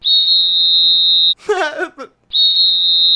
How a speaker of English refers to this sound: Well, it's simple, really. I like whistles.